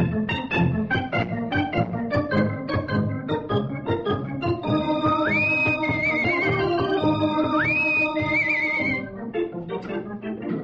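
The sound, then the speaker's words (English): A lively orchestral theme for the Rusty Riley show plays loud and continuous, with bouncing rhythmic strings and brass, and a horse's whinny-like rising squeal cutting in twice over the music. “Give us music for his horse and Rusty.”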